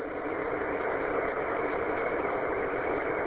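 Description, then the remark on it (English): A car engine idles steadily throughout, the car just turned on with the radio on for a commute to work, a constant low rumbling hum with no change in pitch or rhythm, moderately loud, with no voices. “Yeah, I didn't hear anything that was talked about on the net because I literally just turned the car on and the radio on when you were asking for final check-ins.”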